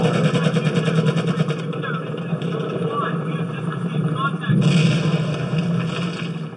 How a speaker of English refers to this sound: This is Iraq, and I'm going to turn the sound on now. Okay. So the helicopter sound is definitely jarring.